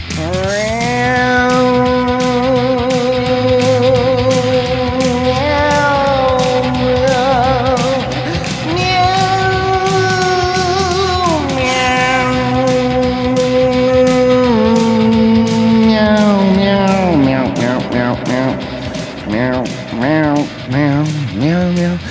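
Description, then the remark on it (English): Voices imitate cat meows in long, drawn-out wails, holding steady pitches before sliding between them, ending in wavering, warbling mews. Loud, with no other sounds. “Meow with me”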